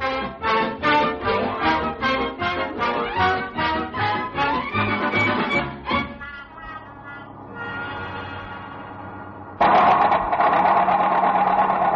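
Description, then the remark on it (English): In a radio comedy show, a car engine chugs in rapid, even pulses for about six seconds, then cuts out as the car stops, leaving a steady sustained tone that swells louder near the end. No one speaks. “Henry, the car, what's the matter with it? I don't know, it just stopped.”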